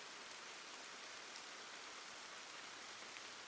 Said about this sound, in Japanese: 雨、やっぱり止む気配がありませんね。